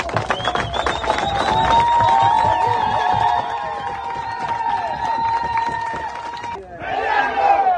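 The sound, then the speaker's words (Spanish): A large crowd of protesters shouts and chants slogans against the mining company First Quantum, operator of Central America's largest mine, demanding it leave the country. A loud, sustained roar of many voices, with a brief dip before the shouting swells again near the end. “Los ciudadanos gritaban consignas contra la minera y pedían la salida del país de la empresa en un ambiente de tensión.”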